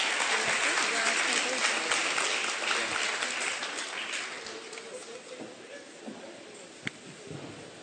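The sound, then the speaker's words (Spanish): A crowd applauds as a woman is given a recognition award, with dense, steady clapping that gradually thins and fades over several seconds, with a few scattered claps near the end. “Un aplauso, por favor.”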